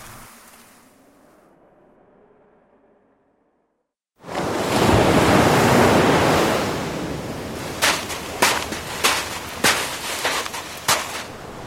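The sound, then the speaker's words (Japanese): After a quiet low murmur and a brief silence, loud ocean surf rushes in, a broad steady roar of breaking waves with several sharp splashes or cracks punctuating it near the end. “で、海に来たわけだが、これからどうすんだ？”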